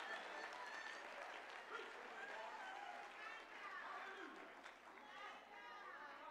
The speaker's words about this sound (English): Somebody need to clap behind that, because you're about to be blessed according to your pain.